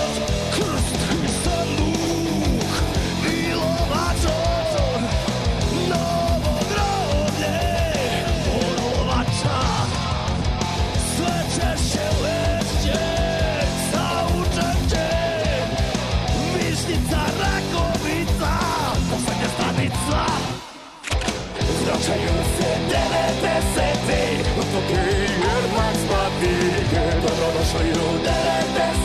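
A loud, dense song, currently at position number two on the show's list, plays continuously with full-band backing and forceful, almost shouted vocals. It cuts out for a split second before carrying on.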